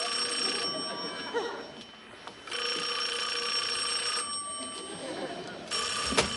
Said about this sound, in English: Feel the freedom, Joe. Feel the power of not answering a ringing phone. Now, don't you feel better?